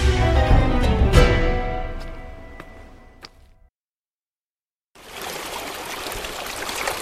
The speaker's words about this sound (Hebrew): וואו, כמה מים בלב המדבר. מאיכן מגיעים לכאן מים רבים כל כך? ברוכים הבאים לעין מבוע, המעיין התיכון במעיינות נחל פרת.